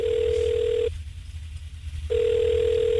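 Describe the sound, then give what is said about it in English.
A telephone ringback tone purrs on an outgoing call to a bookstore, two steady tones separated by a short gap of low line hiss, heard clearly with no voices. “Can you make this phone call? Let's call up a bookstore and just see if they've got any complaints.”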